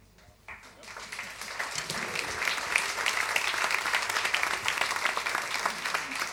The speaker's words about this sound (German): Applaus.